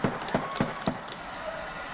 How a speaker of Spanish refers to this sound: Vamos a ir abriendo la puerta.